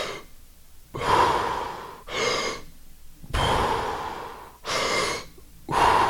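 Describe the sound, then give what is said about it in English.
Five forceful, breathy inhalations in a row, done as the 'hope' breathing technique, each a loud airy rush lasting about half a second to a second, separated by short quiet gaps, with no talking. “So you almost hear the word hope as you're inhaling.”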